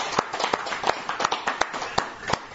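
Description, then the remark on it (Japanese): An audience applauds in celebration of a 36th birthday, a dense wash of many hands clapping with sharper individual claps popping out irregularly, steady and moderately loud throughout, with no one speaking. “まあ、アメリカでこの皆さんの拍手を聞いて喜んでくれるんじゃないかなというふうに思います。”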